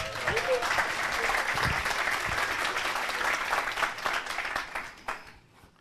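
A crowd breaks into sustained applause, a dense wash of many hands clapping at once, holding steady for several seconds before thinning out and fading near the end.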